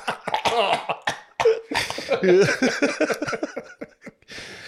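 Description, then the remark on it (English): A person clears their throat several times in a row, harsh, rasping bursts mixed with voiced, strained noises, fairly loud, with only brief pauses between them. “You know why you need to clear your throat?”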